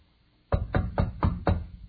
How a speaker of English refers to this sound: A knock comes at her door.